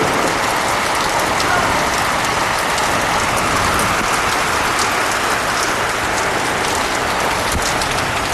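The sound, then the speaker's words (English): Heavy storm rain pours down in a dense, steady hiss, with scattered sharper drops pattering on a surface throughout. No voices, just the loud, unbroken wash of rainfall. “I'm planning on riding this storm out if the batteries will let me.”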